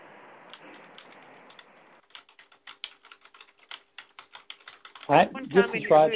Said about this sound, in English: We have one person typing. If you wouldn't mind muting your phone, that would be great.